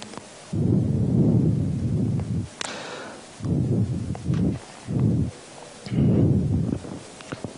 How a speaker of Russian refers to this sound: Я слышу свое дыхание очень сильно. Наверное, всех это раздражает. Как-то мне повернуть, может, микрофон?